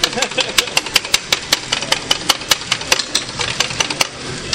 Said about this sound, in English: I'm going to have to turn on this grinder now. I don't know if that's going to... It sounded good.